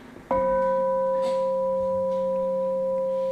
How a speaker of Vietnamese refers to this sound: Bây giờ quý vị thử nghe cái tiếng chuông này nha.